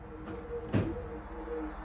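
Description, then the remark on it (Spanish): A heavy stairwell exit door shuts with a single dull thud, short, set against a faint steady background hum with no voices. “El último sonido que oyó el testigo fue la puerta de salida de la escalera abrirse y luego cerrarse.”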